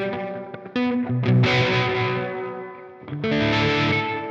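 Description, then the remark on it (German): Heavily distorted electric guitar chords ring out through a washy, reverb-soaked amp, the reverb placed before the distorted amp and turned up fairly high; two loud strummed swells smear into a dirty, sustained roar with no voices. “Wobei ich auch einen Song schon mal gemacht habe, da habe ich das extra gemacht, dass ich den Hall wirklich vor den verzerrten Amp gemacht habe.”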